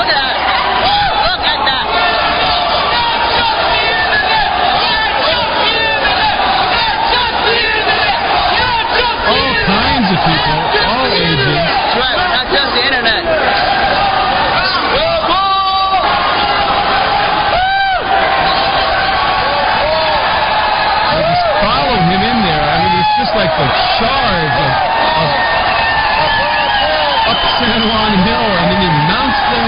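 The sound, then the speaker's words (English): A large crowd screams and yells nonstop as it charges across the street into Grand Central Station, a dense, loud roar of many voices with occasional sharp bangs cutting through. “comes the charge across the street. They're just screaming into Grand Central Station.”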